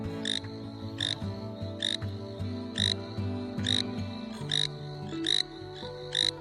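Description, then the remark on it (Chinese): A frog croaks over and over on a sandy beach in a steady rhythm, roughly once every second or less, clear, while a gentle melodic music bed plays underneath. “开心的青蛙呱呱就在沙滩上唱起了歌。”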